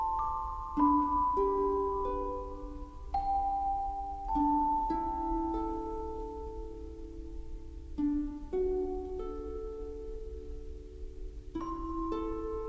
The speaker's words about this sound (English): Giacchino often gives us Nova's theme with a childlike orchestration, simple harp plucks under bells. A soft chorus bed.